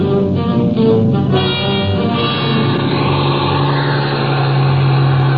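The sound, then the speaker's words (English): A heavy bus engine revs up and accelerates on snow-covered mountain roads, its steady low droning rumble rising in pitch and holding loud throughout, with no voices. “In no time at all, we had the bus clear and headed for civilization.”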